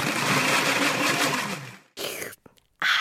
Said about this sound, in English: When it just won't blend, try adding half a glass of water to the top of the blender cup and whiz again.